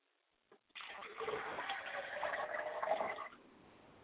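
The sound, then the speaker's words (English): Liquid is poured out as a ritual libation toward the east in a steady, splashing stream for about three seconds, fairly loud, after a brief small knock, then it stops. “I pour libations to the east, and I say, I say.”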